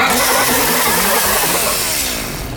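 A boat motor sputters to life and revs up, loud, its pitch climbing over a couple of seconds with no voices present.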